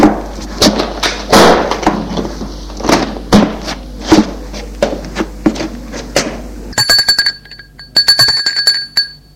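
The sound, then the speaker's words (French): A run of sharp, irregular knocks and thuds, the maid knocking on a bedroom door, followed by the front-door electric doorbell ringing in a fast, bright trill, cutting off briefly before ringing again. “On a sonné à la porte d'entrée, puis frappé à la porte de la chambre.”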